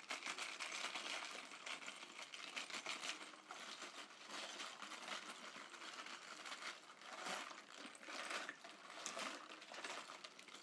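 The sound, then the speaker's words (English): An improvised rain stick filled with ice gives off a steady, dense rattle of tiny clinks and crackles, swelling in brighter surges toward the end, with no voices. “It's a sort of broken rain stick.”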